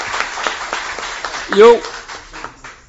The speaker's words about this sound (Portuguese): Pode ser? Ok. Então, a salva de palmas de vocês aprova. a transformação.